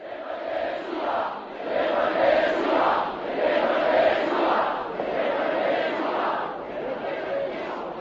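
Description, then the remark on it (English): A huge crowd at the demonstration in Letná Park led by the priest Václav Mali roars and chants in swelling, rhythmic waves, a dense wall of many voices rising and falling steadily throughout with no single speaker standing out. “At the very end of the afternoon, Mali addressed the crowd.”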